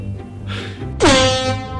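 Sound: air horn blast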